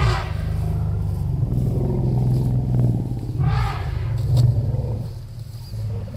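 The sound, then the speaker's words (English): Several elephants rumble together in a greeting ceremony, in deep, overlapping, throbbing tones that run continuously, with a couple of brief, harsher roaring bursts rising over them toward the end. “All right, let's hear now what you call a greeting ceremony.”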